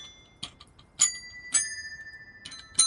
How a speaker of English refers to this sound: Bells don't work upside down. Then how come you can fucking do this with a bell? Well, I mean, that, no, then you gotta shake it violently.